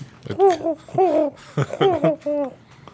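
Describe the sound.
A human voice imitates a dove's cry with five or six close, warbling coos and hoots, each bending in pitch, delivered loudly in quick succession with no words.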